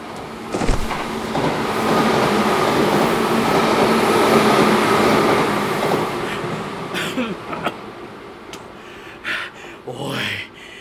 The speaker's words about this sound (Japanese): まもなく2番線を快速白百合ヶ丘行きが通過いたします。危ないですから黄色い線より内側にお下がりください。